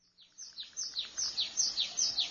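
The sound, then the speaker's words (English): In a meadow, a bird sings a quick series of bright, high chirps, repeated in a steady rhythm about twice a second, clear over a soft outdoor background. “The meadow.”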